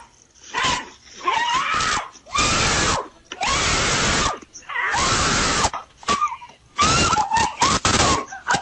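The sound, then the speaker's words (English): A woman screams in repeated, loud, ragged, distorted bursts as a coyote takes off with her dog, with short gaps between cries and what sounds like a dog yelping amid the commotion. “She screams like she's letting out a few.”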